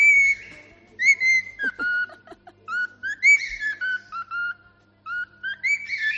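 A cockatiel whistles the Madrid football club anthem in clear, shrill tonal phrases, rising and falling in short bursts with brief pauses between them, with no voices.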